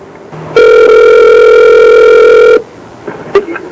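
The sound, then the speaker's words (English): A single loud telephone ring heard over the line as a Bungie Software customer support call is transferred to an extension, one steady electronic buzz lasting about two seconds, followed by faint line noise and a few small clicks. “Please hold on while I try that extension.”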